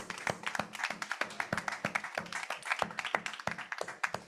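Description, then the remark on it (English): A small crowd claps steadily for the mothers, many overlapping hand claps forming sharp, irregular bursts of applause at a moderate level with no talking over it. “Let's just give a little round of another hand clap for them, all of the mothers.”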